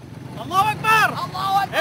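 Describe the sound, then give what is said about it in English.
A steady, low rumble of the engines of hundreds of motorbikes, ridden in Indonesia by men in white robes waving bamboo sticks, drones continuously while voices rise over it in bursts. “Hundreds of guys on motorbikes, dressed in white robes, waving bamboo sticks.”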